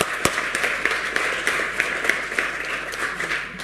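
A crowd applauds steadily at a youth municipal council swearing-in, with many hands clapping in a dense, continuous patter and one sharp louder clap near the start. No one speaks over it.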